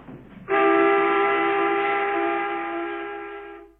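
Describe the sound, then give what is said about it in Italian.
A train comes to a halt almost instantly after its emergency alarm is pulled, with a loud, steady, high-pitched tonal screech that cuts in abruptly over a low rumble, holds for about three seconds, then fades out. “Il treno si fermò quasi istantaneamente.”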